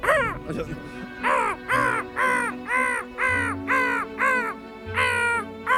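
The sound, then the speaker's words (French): A person's voice imitates a crow, giving a steady series of about eight harsh, nasal caws in quick rhythm, fairly loud, with no other talking. “Et aujourd'hui, avec le temps, je sens que la corneille arrive. C'est un oiseau que j'ai jamais réussi à faire.”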